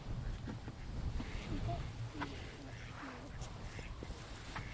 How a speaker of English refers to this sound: But how many ducks are there? 2, 4, 6, 8, 10, 12, 14, 16, 18. 18 ducks. Here they come. They think we've got bread.